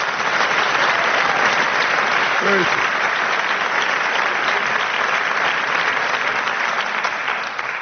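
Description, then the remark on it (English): Steady, dense applause from an audience welcoming a pianist, composer and arranger to receive a prestigious award, a continuous wash of many hands clapping at an even loudness for several seconds, with a faint brief vocal sound partway through. “Give me a warm applause and please welcome this beautiful, beautiful young lady, ….”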